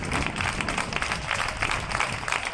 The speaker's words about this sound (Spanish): Son las 8, las 7 en Canarias. Nosotros también aplaudimos a nuestros héroes todos los días a esta hora.